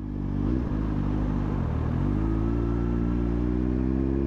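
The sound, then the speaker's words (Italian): A motorcycle engine rumbles loudly, with a couple of quick throttle revs and gear changes before settling into a steady, sustained drone as the rider gets on and sets off through city streets. “Prende la pistola. Sale in moto e parte.”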